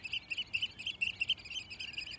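An oystercatcher's high, sharp skirling call repeats in a rapid, insistent run of shrill piping notes, fairly faint over a soft background hiss, with no talking.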